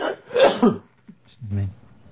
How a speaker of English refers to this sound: I'll just have a cough.